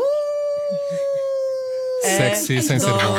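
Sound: dogs howling and barking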